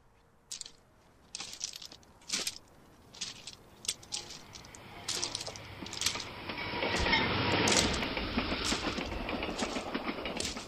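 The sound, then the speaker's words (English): A train rolls by on the railway tracks: sharp, irregular clacks at first, swelling into a loud, steady rumble and rush of wheels as it draws near. No one speaks. “Later, I went out to the train tracks.”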